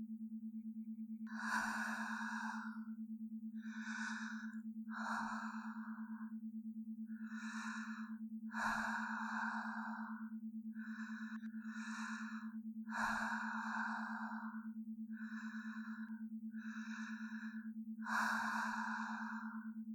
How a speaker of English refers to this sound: Now, I want you to try and feel my heart pounding against your side as I lie quietly beside you, breathing in and out with you.